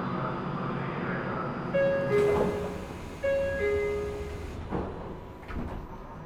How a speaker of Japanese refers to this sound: 扉が閉まります。